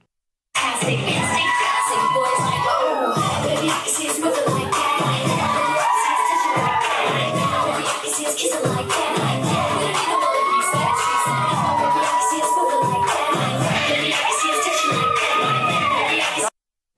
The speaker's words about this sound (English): What are they hooting and hollering about? No talent displayed there.